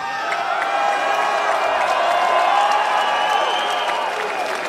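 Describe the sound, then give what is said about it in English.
A large crowd at a Hall of Fame induction applauds and cheers steadily, a dense wash of clapping with shouts and whoops mixed in, holding loud and even for several seconds. “and the response from this amazing crowd just made me realize how important this Hall of Fame induction really is.”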